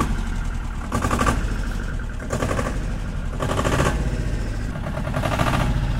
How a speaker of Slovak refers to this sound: Sú to vlastne podomácky vyrobené poväčšinou malotraktorky